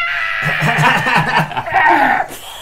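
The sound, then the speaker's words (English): A voice imitates shrill mandrake screams, a strained, wavering squeal that rises and dips in pitch for a couple of seconds before cutting off abruptly. “So yeah, there's loads of screams.”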